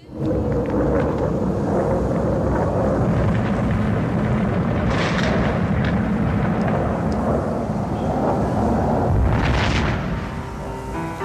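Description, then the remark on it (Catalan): Heavy bomb explosions from a wartime bombardment, recorded on location by a singer, roll into one continuous deep rumble, with sharper blasts bursting through midway and again near the end. Loud and booming throughout, with no voices. “… anava mesclant el so de les bombes que ella mateixa va gravar amb narracions més poètiques”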